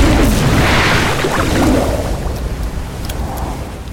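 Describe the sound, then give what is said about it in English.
A loud explosion boom erupts into a broad, roaring rumble that slowly fades over several seconds, with no voices present. “and he's able to pinch the end, do a whole massive piss into it so it looks like a balloon, and then let it go so that a piss bomb explodes.”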